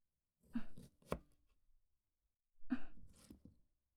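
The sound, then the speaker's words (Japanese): A knife slicing a washed lemon into slices 2–3 mm thick on a cutting board, two short bursts of cutting with sharp taps against the board, fairly quiet, with no one speaking. “レモンは皮をしっかりと洗い、2、3ミリの厚さにスライスします。”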